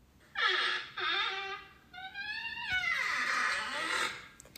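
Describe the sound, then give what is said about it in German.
An eerie creaking barrack door is opened cautiously with a trembling hand, groaning in several long, drawn-out squeals, its shrill, harmonic tone bending up and down in pitch. It is fairly loud and plays alone, without any talking. “Plötzlich das Geräusch einer unheimlich knarzenden Tür.”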